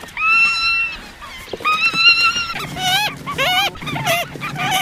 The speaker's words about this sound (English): Once the crew gets the birds back to base camp, the birds are sorted by species into long, burlap keeping cages. Today, there are the regular cast of avian characters. There are the red knots, who sound like forlorn, hysterical chickens.